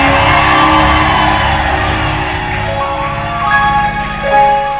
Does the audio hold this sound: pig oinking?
no